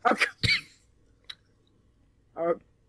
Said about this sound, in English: just having a coughing fit. I can't swallow. Apparently.